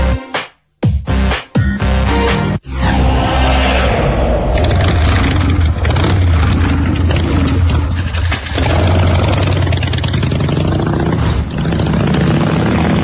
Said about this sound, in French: Et voilà, cette fois-ci, la moto est partie.